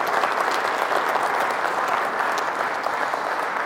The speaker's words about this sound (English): Let's give them another round of applause, please. Thank you.